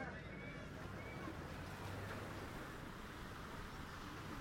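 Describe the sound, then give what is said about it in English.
Seaside waves wash onto a beach at Southend in a steady, continuous rush, with a low rumbling undertone and some wind-like hiss, holding an even loudness throughout. “Then they sit on the beach. They walk in the sea.”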